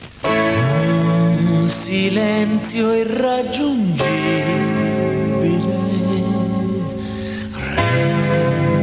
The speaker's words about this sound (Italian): Dall'ultimo suo LP, una dolce canzone